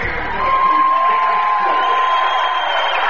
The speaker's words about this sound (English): Rucci Raiders cheering section right behind us on its feet collectively. As the starting five for Rucci is being introduced, Raiders in the home white.